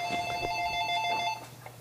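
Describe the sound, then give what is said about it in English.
A landline telephone rings with a steady, bright electronic trill that lasts over a second before cutting off, clear, with no voices; the call is from a telemarketer. “Forgot to unplug the phone.”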